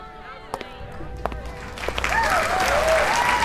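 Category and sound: crowd, audience applause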